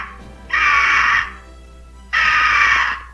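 bird, eagle screech

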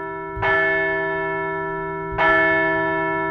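sound effect, bell ringing sound effect

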